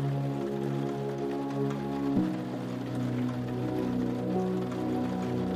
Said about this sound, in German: Die riesigen Wassertropfen, die unbändig an die Fenster und Giebel schlagen, schenken uns motivierenden Beifall.